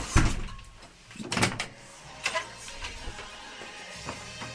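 A pub's entrance door swings open and shuts with a thud, followed moments later by the rattle and clunk of the second door of a two-door vestibule between outside and inside, with faint murmur from inside the pub in the background.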